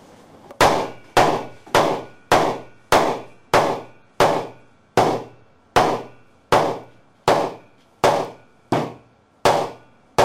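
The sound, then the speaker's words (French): A butcher's cleaver (a feuille) chops through hard cuts of meat in a steady, rapid series of about fifteen sharp, loud whacks, each landing with a brief ringing thud and no voices. “Ça, c'est une feuille. C'est ce qui permet de trancher les côtés durs.”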